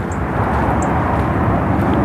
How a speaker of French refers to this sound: Juste à côté, vous avez les avions, l'aéroport. Et là, on va entendre les avions décoller, parce que c'est vraiment en face de l'aéroport.